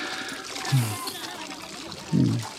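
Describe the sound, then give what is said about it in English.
Water splashes and trickles in two short bursts, one brief and a longer one near the end, over a steady, faint wash of running water in the background, as water carriers bring water. “Finally, the water carriers are bringing some water.”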